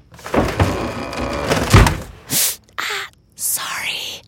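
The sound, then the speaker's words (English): Drawers and closet doors bang shut as a woman gets dressed for an early meeting, a busy sequence of sharp knocks and thuds, followed by several short hissing rustles and breathy, whisper-like sounds. “Take this moment of a woman getting dressed for an early meeting while her husband's still asleep.”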